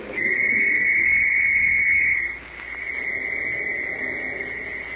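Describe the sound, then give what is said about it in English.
A shrill police whistle blown in a mountain valley blasts loudly and steadily for about two seconds, then continues a little softer to the end, a sustained piercing tone ringing through the valley with no speech. “Shrill and sharp, the whistle rings through the valley”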